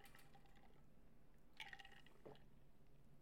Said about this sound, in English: On Friday, hang on a second, everybody. Let me take a sip of my vitamin water. Hang on.